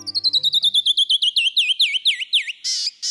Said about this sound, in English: When a canyon wren sings, the brilliance of its descending notes can stop you right in your tracks. But when its cousin, the marsh wren, sings, you may reach for your earplugs.